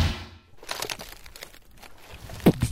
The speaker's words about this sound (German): Was ihr hört unter den Schritten, ist der Müll, den sie hier wahrscheinlich ja mitbitten. Einfach noch wegschmeißen, einfach in die Ecken.